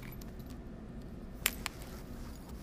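A brief jingle of keys as someone gets their keys to leave, two quick bright metallic clinks, over a steady low rumble like an idling car or engine in the background.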